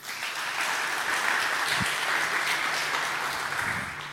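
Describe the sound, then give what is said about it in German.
Steady audience applause for the mushroom lights, a dense crackle of many hands clapping at an even loudness throughout, with no one speaking over it. “Applaus für die Pilze.”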